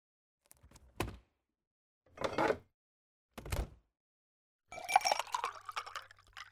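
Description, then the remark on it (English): Three dull, spaced knocks, like a glass being set down and handled, then water pours steadily into a glass for about two seconds, clear, with no one speaking. “God, I need a glass of water.”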